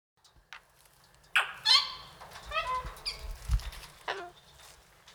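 Several birds call in overlapping bursts in a bird park in Ortenburg, with harsh honking and squawking cries starting after a brief pause, over a low rumbling background and a soft flutter.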